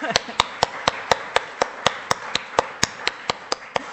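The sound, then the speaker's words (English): A church audience at a morning service applauds a member's 90th birthday, with one clapper standing out in a steady, quick rhythm of sharp claps over a softer wash of hands from the rest of the gathering. “So I think we'll give him a clap for that.”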